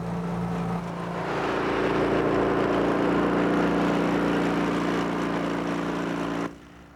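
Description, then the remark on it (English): A cranberry harvesting machine's engine drones steadily and loudly with a low, even hum and broad rushing noise, running unbroken for several seconds before cutting off abruptly near the end. The machine knocks berries off the vines in a flooded bog with its bars and by agitating the water, so the berries float to the surface. “The machines, they'll actually knock the berries off the vines through the bars and the agitation of the water, and the berries will float to the surface.”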